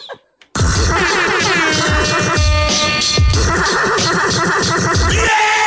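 A loud, dense hip-hop track kicks in after a brief quiet moment, with punchy drum hits under a layered, sampled melodic backing and scratchy textures.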